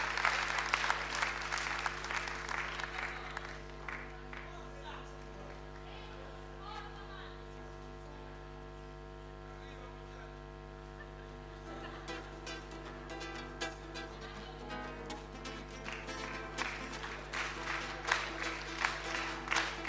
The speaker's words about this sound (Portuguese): E um salva de palmas para aquele invento ali, que me vendi para ele.